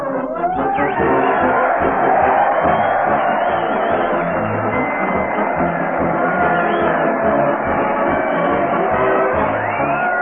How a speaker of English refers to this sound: Crowd cheers. Fred Allen leads his parade to the old town hall. Fred's carrying a big bass drum, and the crowd's trying to beat it as the Mighty Allen Art players come into sight.